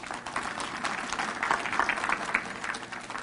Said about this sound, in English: Give her a big hand clap.